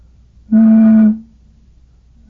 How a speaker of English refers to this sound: Another rather obvious invention, I think, is the bottle whistle.